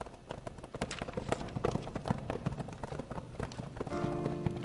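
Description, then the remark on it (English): Several arriving horses' hooves clip-clop steadily on a hard, moonlit street, a busy overlapping rhythm growing fairly loud as they come up and halt at the corner of a saloon, with a faint tonal hum emerging near the end. “The arriving horses came up into the moonlit street and halted at the corner of the saloon.”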